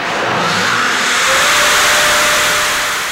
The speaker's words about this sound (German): Bei unserem Geräusch des Monats handelt es sich um die vertikale Überschallmessstrecke Köln, kurz VMK. Dieser Windkanal erzeugt einen Luftstrom, der Mach 3, also die dreifache Schallgeschwindigkeit, erreicht.